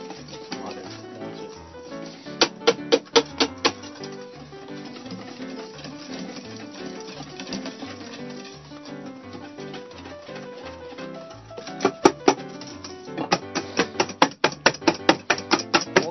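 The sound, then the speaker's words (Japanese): Egg whites being whisked with a soft, flexible whisk in a bowl to make meringue: bursts of quick, sharp metallic clicks and taps, one brief run early and a longer rapid run near the end, over a steady background hum. “それ柔らかいでしょ、そのホイッパ ー。”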